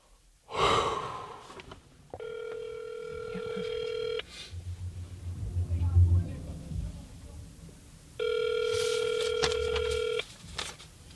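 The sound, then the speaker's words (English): A phone line rings out twice after a number is dialed on a mobile phone from inside a car on a residential block, each steady electronic ring lasting about two seconds with a long pause between, preceded by a sharp breath and a low murmur in the gap. “Back in the car on a random residential block, I take out my phone, punch in the number for the boy in the photo.”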